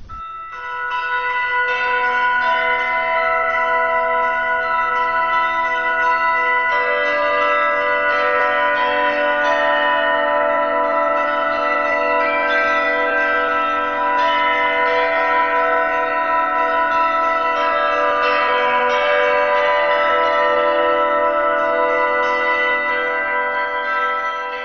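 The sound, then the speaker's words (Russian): Church bells ring steadily for the whole stretch, several bells sounding together so their bright, lingering tones overlap into a dense, loud peal with no voices. “Один колокольчик на храме Всех Святых на Соколе, один или два, там дребезжал, но, разумеется, это далеко от полной красоты.”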